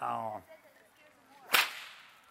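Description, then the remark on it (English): A single sharp, loud whip crack snaps, ringing briefly before fading. It follows a short, tonal hum at the very start, with quiet background otherwise. “If you don't mind getting this whip's been dragging in the dirt, and it might just give a little.”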